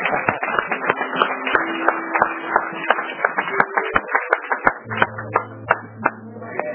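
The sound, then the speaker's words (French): A crowd applauds for themselves in a dense, continuous patter of many hands clapping for several seconds, with a steady low sustained tone running underneath. “Applaudissez pour vous.”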